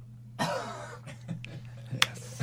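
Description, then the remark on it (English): A single cough bursts out, picked up on a microphone while testing a studio cough button, followed later by a brief sharp click, with a steady low electrical hum running underneath. “I think we all have to do the cough button together for it to actually work, because it picks up on my mic or his mic.”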